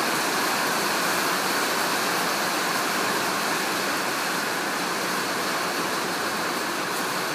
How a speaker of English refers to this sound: You're listening to the sound of heavy rain pattering on corrugated iron roof. There's been lightning and thunder a couple of minutes ago.